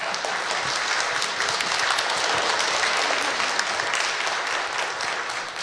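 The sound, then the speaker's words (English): An audience at a church service applauds its musicians, violinist and choir steadily for several seconds, a dense, even wash of many hands clapping at a constant loudness with no voices standing out. “our musicians, our violinist, our choir, and I think the Lord wouldn't mind if you gave them a round of applause.”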